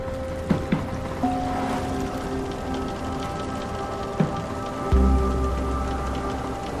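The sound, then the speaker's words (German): A boat's pump drones steadily while artificial whale-poo fertiliser gushes and splashes into the open sea off the coast, for a project in Sydney, Australia, with a few knocks and a deeper rumble kicking in near the end; no one speaks. “Vor der Küste pumpen sie ihn von einem Boot aus ins offene Meer.”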